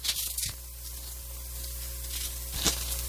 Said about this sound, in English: And excuse me, I'm about to sneeze, so let me go ahead and blow my nose, which is a real embarrassment when you got a headset on. Excuse me.